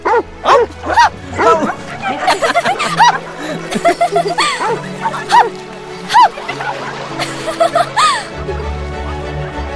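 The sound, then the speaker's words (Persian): A voice imitates a hunting dog's barking with short, yelping woofs repeated over several seconds, mixed with chuckling and laughter, fairly loud. “من یه سگ شکاریم. هاپ. پس منم یه سگ شکاریم.”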